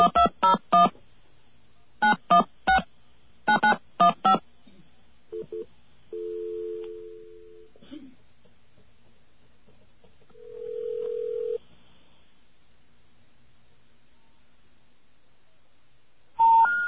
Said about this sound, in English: Let's try another one. Try one up from that. Do we have a dial tone here? Okay.